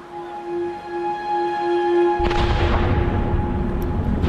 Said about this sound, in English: From distant explosions caused by demining in Kyiv's suburbs to air raid sirens, which still go off several times per day.